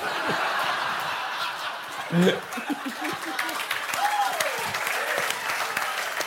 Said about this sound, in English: Is that a clap?